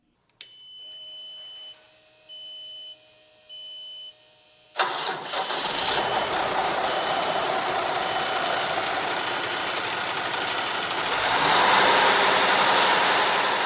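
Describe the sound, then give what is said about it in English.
A few steady electronic beeps sound, then a large diesel truck engine at Scott Community College in Bettendorf, used in the college's truck driving program, cranks to life and settles into a loud, rumbling idle with no one talking. “Ray Hitchcock showed me this large diesel truck engine at Scott Community College in Bettendorf.”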